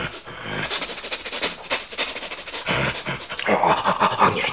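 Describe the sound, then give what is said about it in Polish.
A dog sniffs hard and fast while passing a restaurant, catching its smells: a steady run of short, breathy snorts through the nose, fairly loud and uninterrupted, with no one speaking. “Przechodząc obok restauracji, pociągał mocno nosem, potem gwałtownie wypuszczał całe powietrze i jeszcze raz głęboko wciągał je do płuc.”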